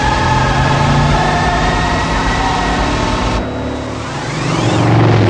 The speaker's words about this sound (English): How does that hold that steady spin if it's rear-wheel drive? No, I'm just like, and she has a parking brake up. This car has no fucking lights either.